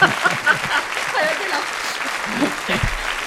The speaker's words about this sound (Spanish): Les damos un aplauso a tus yernos que por hacer hacerle la pelota al suegro, se han subido sí, en no, el ultraligero, no, por el favor.